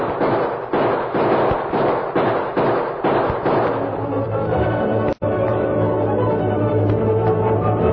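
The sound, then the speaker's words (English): A rapid volley of gunshots from over on Main Street, about eight sharp cracks in quick succession, fades into a steady sustained tone, with one abrupt click near the end. “What's that? Sounds like... Gunfire. It was over on Main Street.”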